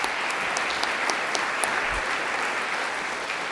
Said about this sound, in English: Thank you so much. We'll clap.